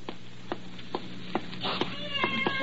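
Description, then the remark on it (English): A cat meows a few times inside a building, with sharp tonal cries in the second half following a series of light, evenly spaced taps or clicks, moderately loud. “Help me get this cat out of the building.”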